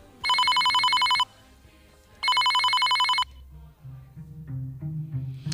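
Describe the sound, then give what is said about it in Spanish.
A telephone rings twice in loud, buzzy bursts of about a second each, separated by a pause: a call from a hospital in Almería. Afterward faint background murmur and low rumble continue. “Esa conciencia hizo nacer esta historia, que comienza con una llamada de teléfono.”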